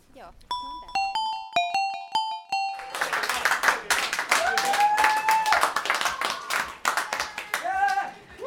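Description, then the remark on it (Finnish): A short chiming melody rings out, then a crowd in a bar bursts into steady, dense applause for an artist that continues for several seconds, with voices calling and cheering over the clapping. “Täällä taiteilija sai aplodit baarissa.”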